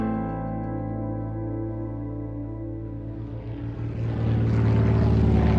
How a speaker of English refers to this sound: The plane lands. Thank goodness.